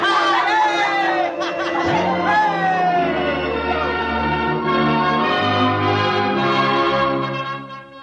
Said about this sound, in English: The bells of the Baptist, the Congregationalist, and the Roman Catholic Church were ringing. We were all jumping up and down, shouting, screaming, laughing,